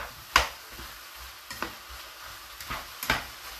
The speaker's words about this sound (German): Dann wieder an die Pfanne zurück. Ein bisschen umrühren. Ein bisschen rummischen. Damit sich auch alles einigermaßen anbraten kann.